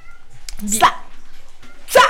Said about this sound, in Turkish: Dünyanın en güzel kedisi geldi çocuklar.